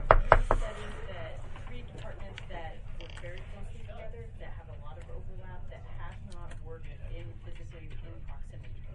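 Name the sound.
door being closed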